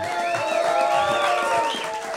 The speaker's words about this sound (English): If you guys could just clap a little bit louder, these are noise-canceling glasses that Luis is wearing. I can't see their laugh. They're clapping.